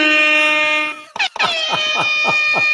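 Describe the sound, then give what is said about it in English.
A loud siren sound effect: a steady, buzzy horn-like blast, a brief break, then a series of rapid, repeating falling wails with a bright, harmonic tone, playing alone. “But yeah, no, anytime you're patting yourself on the back, they would have a nice little siren.”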